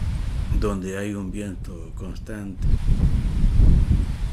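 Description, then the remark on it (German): Strong wind buffets the microphone in a low, blustery roar, rising in gusts toward the end after a person speaks briefly over the steady rush, on a hilltop at Tambores, a village of about 1500 people surrounded by open land and steppe, where a permanent wind blows. “Tambores wird auch der Ort des Windes genannt, denn er liegt auf einem Hügel und es weht ein permanenter Wind.”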